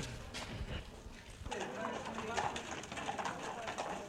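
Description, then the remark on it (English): Horse-drawn carriage hooves clip-clop on pavement in an uneven rhythm as the horses and carriage return to the Radio Nederland building, with murmuring voices and faint bird sounds in the background. “And the horses and the carriage are now returning.”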